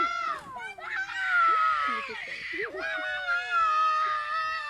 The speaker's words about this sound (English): And the other boys are shouting at him. They're telling him to shut up. They're telling him not to cry because he's a boy.